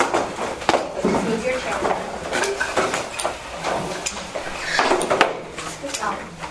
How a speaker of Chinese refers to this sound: 你们椅子移过去